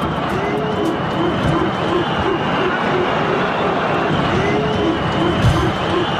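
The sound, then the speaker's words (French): A loud stadium crowd in Russia during the Russia-France friendly football match roars steadily while many voices join in rhythmic, repeated low 'ooh' monkey chants aimed at the black players of the France team, the chant rising and falling in quick pulses over the constant din. “la Russie, c'est ce pays où les joueurs noirs de l'équipe de France sont accueillis avec des cris de singe.”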